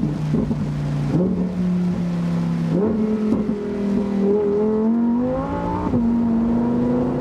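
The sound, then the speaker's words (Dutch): A Lamborghini Huracán's 5.2-litre V10 engine, rated 640 hp at 8000 rpm and revving to 8500 rpm, roars loudly, its pitch climbing in several steps as it accelerates through the gears, with no voices over it. “Zo'n lekker motorblok. De V10, 5,2 liter groot, mag 8500 toeren draaien en deze versie 640 pk bij 8000 omwentelingen, om maar zo'n oud Hollands woord te gebruiken.”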